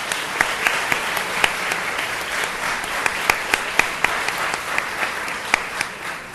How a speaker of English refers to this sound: Why don't we give Rob Christie and the Center a round of applause.